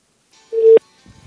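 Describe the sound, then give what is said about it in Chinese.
A single short electronic phone tone from a dual-SIM mobile phone placing a call on SIM card two by voice command holds steady for a moment, then cuts off with a click, followed by faint low handling noise. No one speaks. “这个时候我的电话就已经响了，我来接一下。”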